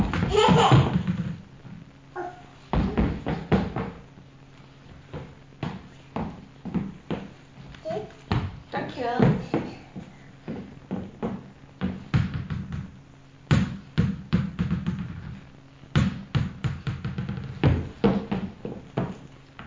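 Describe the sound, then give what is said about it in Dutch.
A ball thrown up into the air bounces repeatedly on a hard floor with sharp, irregular thuds. A child's voice and some laughter come in between the bounces. “Stuiter! Gooi hem gewoon in de lucht.”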